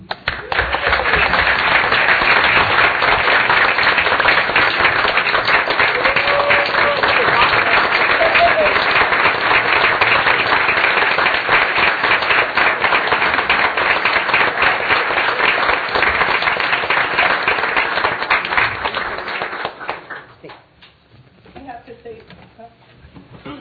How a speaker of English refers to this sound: And on behalf of all of us on the Assembly and a grateful city, we applaud